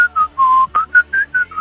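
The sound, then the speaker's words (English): A person whistles a short, bouncy melody up close: about seven clear notes in a quick rhythm, one held longer, with faint breathy accents between them and no talking. “I just started whistling and I went...”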